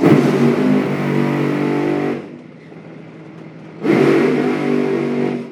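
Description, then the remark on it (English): Loud drag racing engines roar and rev, with a strong harmonic rumble, dropping off briefly in the middle before surging back to full volume. “Pause for engines on.”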